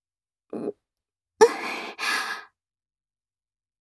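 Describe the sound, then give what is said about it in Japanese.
Very close, breathy exhales blown onto the listener's ear: a brief soft puff, then two longer airy breaths in quick succession, with no talking. “様の吐息が、はあ、耳にかかります。”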